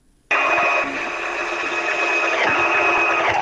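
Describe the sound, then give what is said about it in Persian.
A sewing machine used by women doing tailoring in Afghanistan starts abruptly and runs steadily, a continuous fast whirring hum with a bright mechanical buzz and faint rhythmic clatter of the needle, no voices. “در این گزارش که با صدای ماشین خیاطی آغاز میشه”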